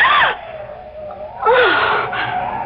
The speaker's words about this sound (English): As he passes a darkened doorway, he hears a gasp.